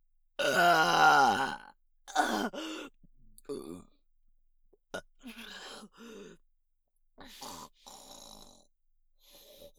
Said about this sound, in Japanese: すさまじいお下品ゲップが出ました。